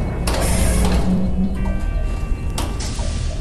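A heavy mechanical door strains and grinds as it is forced open, with a low rumbling hum under harsh, hissing bursts of metal scraping. No one speaks.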